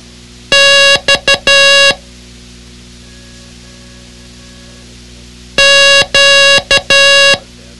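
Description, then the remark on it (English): Loud, buzzy Morse code beeps spell out two letters: long-short-short-long for X, then after a pause, long-long-short-long for Q. No one speaks. “Okay, can you still pick out the X when it's mixed up with the Q, payday today?”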